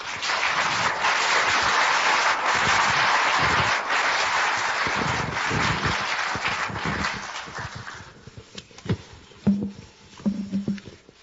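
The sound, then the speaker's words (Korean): A crowd applauds steadily and loudly for about eight seconds to welcome a graduate school dean as he comes out, then the clapping thins out into a few scattered claps and faint low murmurs before fading. “나오실 때 여러분 뜨거운 박수로 환영해 주시기 바랍니다.”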